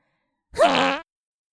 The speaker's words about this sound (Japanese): まあ、おなら出せてすっきりしました。でも、子供たちの前で、私あんなこと。